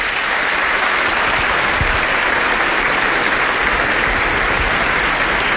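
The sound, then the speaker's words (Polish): Sustained audience applause welcoming a family from Kielce, a dense steady wash of many hands clapping at once, loud, continuing evenly throughout without anyone speaking. “Brawa”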